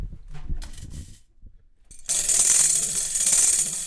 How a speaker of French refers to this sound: Vous avez vu, c'est les sonnailles qui viennent sonner et le doigt qui vient glisser dessus. Tout ça, c'est des instruments à la base qui viennent d'un pays qui s'appelle la Mésopotamie.